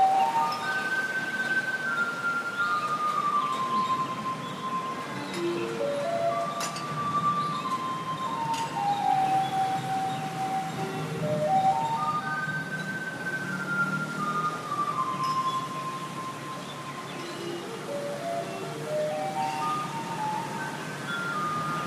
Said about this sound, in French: on va commencer, ça ne s'invente pas, par le bruit bien caractéristique du camion poubelle de la ville. Bienvenue à Taipei.